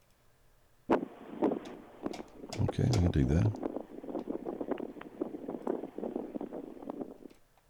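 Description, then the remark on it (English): A wind sound effect: blustery wind noise rushes steadily throughout, with irregular gusty bursts and crackles, while a man briefly speaks over it partway through. “Let's do that, man. It's windy.”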